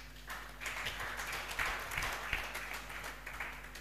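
An audience claps together for a meeting's leader and her assistant in a steady burst of applause, a dense wash of many hands with a few sharper slaps standing out, sustained at moderate loudness over a low constant hum.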